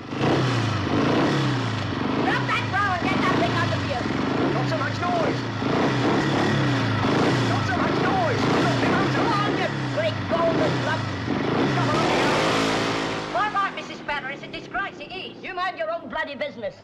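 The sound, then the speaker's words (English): A motorbike engine revs loudly at the curb outside a house, rising and falling in throaty bursts with a sharp climb near the end, while indistinct voices murmur underneath. “Bernie's revving his bike at the curb as Vic steps out of his house, gesturing for him to keep the noise down.”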